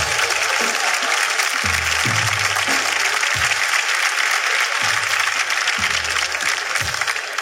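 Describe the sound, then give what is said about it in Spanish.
Sustained audience applause, a dense, steady wash of many hands clapping at an even loudness for several seconds, with low rumbling thumps scattered underneath. “Un aplauso para Puerto Rico.”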